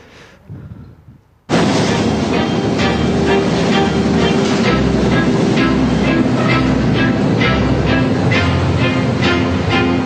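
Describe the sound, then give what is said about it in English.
After a brief hush, a metro train suddenly roars in loud through a metro station in Amsterdam, a dense rushing rumble with steady rhythmic low thumps. “So he's in a metro station in Amsterdam somewhere”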